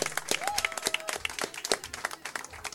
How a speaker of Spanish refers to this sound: Merecidísimo aplauso.